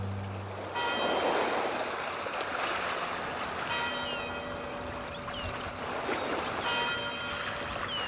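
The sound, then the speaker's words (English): A buoy bell at the Bayview Yacht Club in Detroit rings out over lapping water, its metallic chimes sounding at irregular intervals against a steady wash of waves, with no voices present. “The University Tower chimes, and the chimes of the buoy apparently ring in another session of Ask the Professor”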